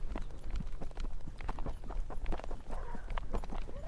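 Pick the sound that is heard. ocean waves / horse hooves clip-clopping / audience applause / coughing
horse hooves clip-clopping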